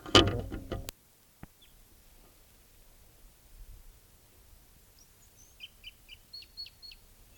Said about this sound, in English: Wild bird.